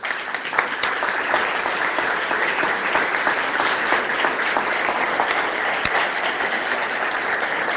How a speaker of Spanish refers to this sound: nuestro equipo no es solamente bailarines, estos son nuestros bailarines. ¿Sí? Yo les pido para ellos un aplauso.